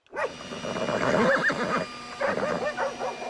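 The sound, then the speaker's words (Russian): A horse neighs loudly, two quavering, drawn-out whinnies separated by a short pause, with no one talking; horses are harnessed with snowmen and dogs to pull a bulldozer out of a river. “Впряглись снеговики, лошади, собаки.”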